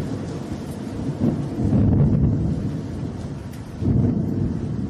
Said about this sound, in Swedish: Mm, och om man ska tolka tecknen så är det ju någonting märkligt som händer, för molnen hopas och ett fruktansvärt åskoväder dundrar igång också.